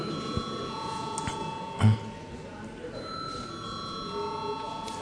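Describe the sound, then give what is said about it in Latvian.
An electric bell in the Saeima, Latvia's parliament, rings steadily for about five seconds before a vote, a sustained bright tone with overtones that holds without a break while low murmuring and shuffling go on underneath. “Lūdzu zvanu.”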